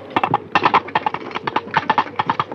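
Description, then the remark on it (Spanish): Coconut shells knocked together in a quick, steady gallop rhythm as a radio drama sound effect imitating galloping horse hooves, with hollow clip-clops in repeating groups of three, with no one talking. “Y los cascos de los caballos, iba el caballo galopando, eran con unos cocos, haciendo así, y hacían el ruido de los cascos de los caballos.”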